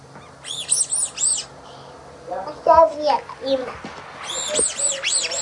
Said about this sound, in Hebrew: אתה מצפצף לאמא ברווז? ברווז, מה זה?